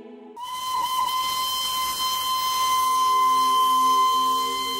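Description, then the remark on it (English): The steam locomotive whistle of the Darjeeling Toy Train blows in one long, steady shrill tone over a broad hiss of escaping steam, loud and sustained from start to finish with no voices. “Darjeeling Toy Train is another unique attraction of the region.”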